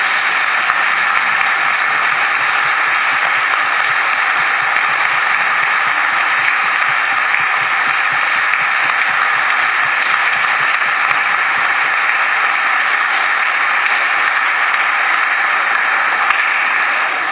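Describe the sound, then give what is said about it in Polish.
Sustained applause from a large crowd, a dense, steady wash of many hands clapping at an even loudness for the whole stretch, with no voices standing out. “I tyle, ja robię tylko i wyłącznie swoje, więc jeżeli chcecie komukolwiek bić brawo, to Panu Jezusowi, bo jak zrobił coś takiego w moim życiu, to naprawdę może zrobić w życiu każdego z was.”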